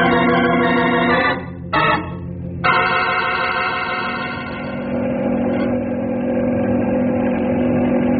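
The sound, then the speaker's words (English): A helicopter engine, called a flying banana, is pushed to full power: a steady, harmonic drone runs throughout, briefly dipping twice early on before surging back and settling into a sustained, loud hum with a strong low tone. “Grey Wolf, give this flying banana all it's got.”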